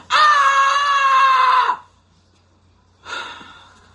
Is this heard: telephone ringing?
no